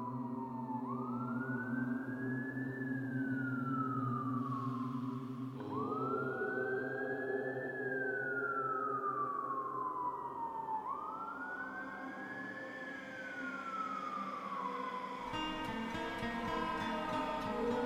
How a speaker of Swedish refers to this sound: Någonstans långt bort kunde jag höra svaga sirener från brandbilar. Men jag visste att de inte skulle hinna fram i tid.